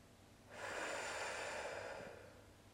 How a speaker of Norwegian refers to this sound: Endnu en ny indånding. Hold vejret et øjeblik og pust ud af munden.